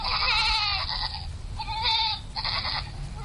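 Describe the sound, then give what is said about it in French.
Goats and sheep bleat in overlapping, wavering cries, three bursts in quick succession, over a low rumbling background of a busy outdoor herd, in Maroua in Cameroon's far north, where authorities are distributing goats and sheep to young villagers. “Les autorités distribuent des milliers de chèvres et des moutons aux jeunes Camerounais des villages proches du Nigeria.”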